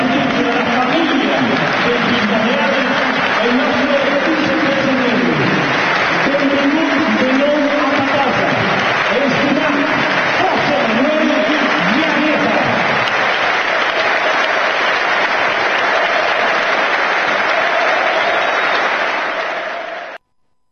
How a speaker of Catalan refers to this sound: Esta ovació de l'estadi en peu a José Manuel Llaneza